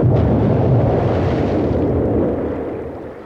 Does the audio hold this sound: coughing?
no